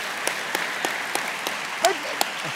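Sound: audience clapping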